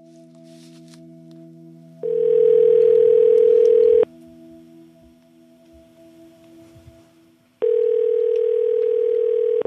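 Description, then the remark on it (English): Telephone tones from an outgoing call: two loud, steady buzzing rings of about two seconds each, separated by a pause, over a faint continuous low line hum. No one speaks. “One of the first calls I made as we started this podcast”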